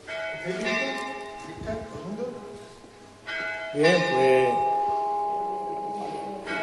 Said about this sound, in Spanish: vamos a esperar la campana, ¿no? Bueno, pues viene. No esperamos a la cuerda, ya se acabó la campana.